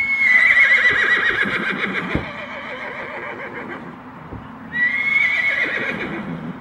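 A horse whinnies loudly, a long shrill neigh, then neighs again after a short lull, with faint clip-clopping hooves underneath. No one speaks.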